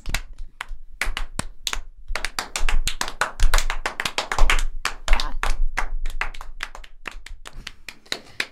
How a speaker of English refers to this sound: I just riffed, guys. Great for me. A slow clap.